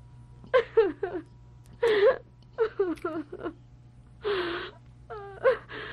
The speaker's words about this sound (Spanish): Vamos, vamos. ¿A qué viene ese llanto?